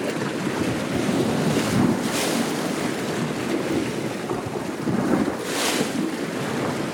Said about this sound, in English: Eric Lacasa composed this piece from recordings he made of waves hitting the shoreline and swirling in the rocks along the coast near Rovinj, Croatia.